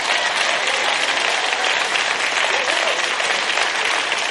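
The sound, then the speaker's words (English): An audience breaks into loud, sustained applause, a dense steady wash of many hands clapping at once with no pauses, filling the whole stretch at an even level. “Now, if you're going to applaud, do it right, or don't do it at all.”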